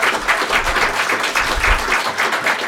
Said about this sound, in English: Applaud that.